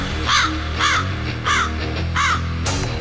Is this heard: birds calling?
yes